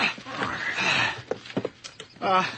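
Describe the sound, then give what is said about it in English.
Hooves of a horse that has just been hooked up clip-clop on a hard surface, a handful of moderately loud hits in an uneven rhythm, with a murmur of background noise and a short voiced sound at the end. “Horse is all hooked up. Up you go.”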